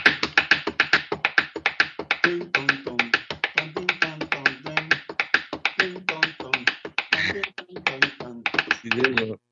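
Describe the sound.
A fast, steady rhythm of sharp hand taps, an original beat demonstrated by a musician, fills the whole stretch, fairly loud, with a wordless voice vocalizing along in places.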